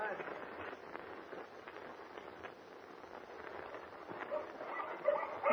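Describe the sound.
A pack of huskies barks and yelps in a dense, continuous chorus, with voices faintly mixed in beneath the racket.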